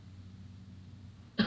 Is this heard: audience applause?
no